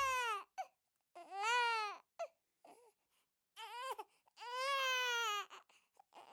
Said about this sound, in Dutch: Het mooie prinsesje was altijd aan het huilen. Ze huilde als ze geknuffeld werd. Ze huilde als ze het lekkerste eten van de wereld kreeg. En ze huilde zelfs in haar slaap. Ze huilde altijd en lachte nooit.